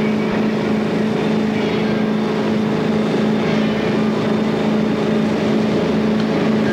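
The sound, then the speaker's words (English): A motorboat engine roars steadily at full throttle just after clearing the last marker out of a marina. It is a loud, constant droning hum with a strong low tone and rushing water noise, unbroken throughout. “You finally clear the last marker at the marina, and then you firewall that bad boy.”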